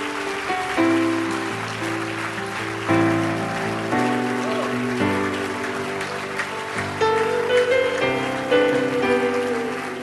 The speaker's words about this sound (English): Can you give Jesus a hand clap?